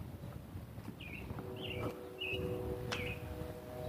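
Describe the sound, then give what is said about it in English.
A robin sings a run of four short, clear whistled phrases spaced about evenly apart over a steady low outdoor rumble. “It's a robin holding forth here.”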